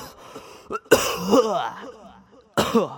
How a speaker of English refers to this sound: All right, hold on a second. I got a cough, dude. Makes me like 10 times more higher. One second.